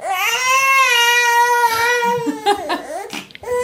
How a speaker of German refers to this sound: wollte ich nur mal kurz das Schreien unseres Sohnes zeigen.